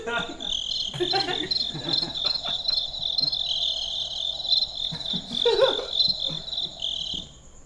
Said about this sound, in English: hang on, I got to shut down these crickets.